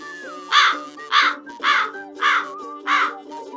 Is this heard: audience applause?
no